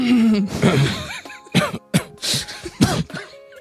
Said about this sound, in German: Man sollte auch nicht so ins Mikrofon räuspern wahrscheinlich, ne?